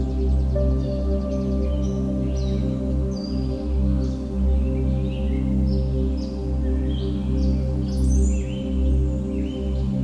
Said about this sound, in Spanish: Escuchas el sonido de la fauna que vive pacíficamente en este bosque. Lo que resulta absolutamente placentero para tus oídos.